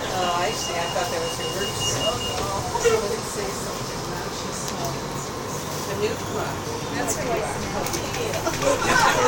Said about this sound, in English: And here comes an L train above our heads.